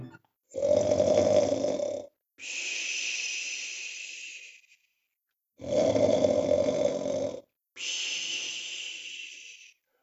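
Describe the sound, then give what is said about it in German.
Loud snoring, two full cycles of a rough, rattling inhale followed by a long hissing, whistling exhale, with brief silences between breaths and no talking. “Ui, ui, ui, oh Mann, was der laut schnarchen kann.”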